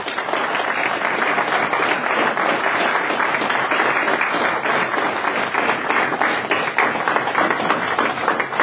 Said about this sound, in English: So let's give a warm round of applause to CCA and to the foundation, and I'd ask that they come up and we will get a picture taken.